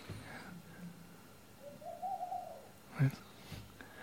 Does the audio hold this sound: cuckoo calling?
yes